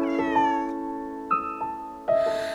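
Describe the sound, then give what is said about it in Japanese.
A cat meows three times in quick succession, each call rising sharply then sliding down, fairly loud over a steady, sustained humming tone. “猫どこに行くの”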